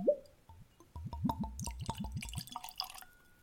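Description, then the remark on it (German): A 15-year-old whisky at 46% alcohol glugs out of a freshly opened bottle in a quick, rhythmic run of hollow gurgles, followed by a softer trickle and faint clinks as the pour ends. No talking. “Ein Gießgeräusch bei neuen Flaschen.”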